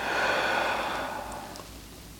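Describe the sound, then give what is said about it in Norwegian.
A long, deliberate exhale during a breathing exercise, a breathy rush of air that stays steady for about a second before gradually fading away into quiet. No one speaks. “Och ut.”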